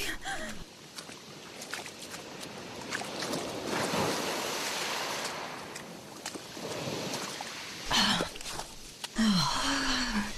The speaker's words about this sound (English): The tide is rolling in.